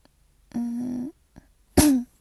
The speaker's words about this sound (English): It always happens at night though. I get a little cough.